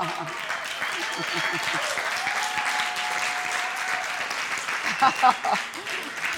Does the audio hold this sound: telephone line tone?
no